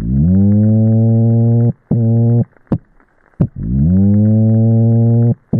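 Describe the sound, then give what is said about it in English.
A toadfish hums very loudly to attract a mate in spring, picked up by hydrophones across the mouth of Chesapeake Bay: loud, low, buzzing drones with rich harmonics, a long tone rising slightly at the start, a short burst, a few sharp clicks, then another long hum. “And after some extensive investigation, they determined that, in fact, it was the kind of toadfish that hums very, very loudly for a mate.”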